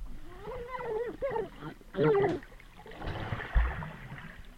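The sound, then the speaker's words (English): A video game drowning sound effect from a bobbing-for-apples audio game, as the player drowns: gurgling, strained groans warble over bubbling, churning water, rising into a louder choked burst before dissolving into a rushing, splashy wash. “Player drowned.”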